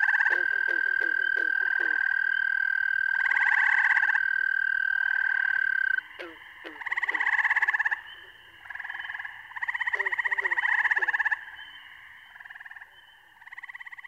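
A dense breeding chorus of frogs, including tiny tree frogs called spring peepers, with males calling by inflating vocal sacs: a steady high-pitched trill drones for several seconds while rapid clicking pulses and loud raspy, nasal bursts overlap throughout, the chorus staying loud and busy.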